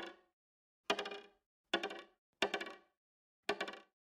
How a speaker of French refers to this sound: Elle entend des bruits par milliers. Une tortue qui gratte la terre en marchant.